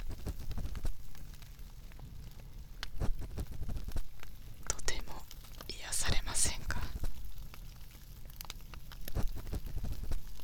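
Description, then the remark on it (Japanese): A fireplace crackles with irregular sharp pops and snaps over a low, steady hiss, while a soft whispering voice speaks briefly midway. “この暖炉の音、いかがですか？”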